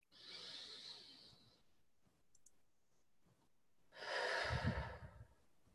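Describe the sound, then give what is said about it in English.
A slow, deep breath is drawn in, followed after a quiet pause by a fuller, louder exhale with a low rushing body, with no talking. “And a deep breath to acknowledge the connection with the earth and how we are breathing life together with and through our connection to the earth.”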